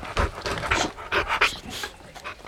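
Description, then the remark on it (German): A dog, Timmy, sniffs at a jacket and pants, a quick series of breathy, rhythmic huffs at moderate volume with no talking over it. “Und jetzt lasse ich Timmy daran schnuppern.”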